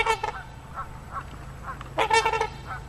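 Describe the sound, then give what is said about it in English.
Large numbers of trumpeter swans and Canada geese honking in a loose chorus at Beamer's Pond, 4 miles west of Webster City, Iowa, several calls overlapping, with a louder burst of honks near the end over a low steady background hum. “Huge numbers of trumpeter swans, as well as Canadian geese, have been observed at Beamer's Pond, 4 miles west of Webster City, at the junction of Highway 20 and 17 North.”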